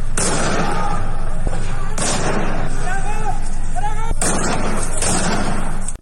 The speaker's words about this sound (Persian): در ویدیویی که به سایت حقوق بشری هنگا و شامگاه دوشنبه از سنندج منتشر کرد، ماموران امنیتی در حال تیراندازی مستقیم به سمت خانه‌های شهروندان در سنندج هستند.